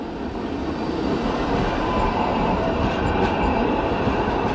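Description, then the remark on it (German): Line 2 trams roll past heading toward Kossuth Square and the Parliament, a steady low rumble of rail wheels with faint clatter filling the whole stretch, continuous and fairly loud with no voices. “Straßenbahnen der Linie 2 ziehen an uns vorbei.”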